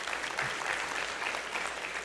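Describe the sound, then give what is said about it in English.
An audience applauds in a steady, dense patter of many hands clapping, sustained at an even level throughout without pauses. “I wouldn't clap for him, but...”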